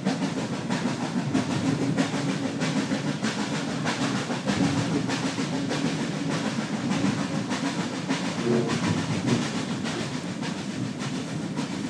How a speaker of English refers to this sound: So, this is our steam train. We're faster now. Yeah.